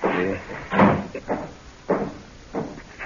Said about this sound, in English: Let me shut this door.